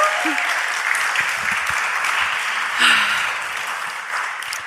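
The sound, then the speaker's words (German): An audience at Kampnagel claps steadily, a dense, even wash of applause lasting the whole stretch, with a brief voice rising out of it partway through. “Habt ihr schon geklatscht?”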